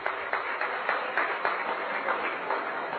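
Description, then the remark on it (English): An audience applauds steadily for three seconds, many hands clapping in a dense, even patter with a few sharper claps standing out. No one speaks over it. “Maybe you can hold your applause till the end.”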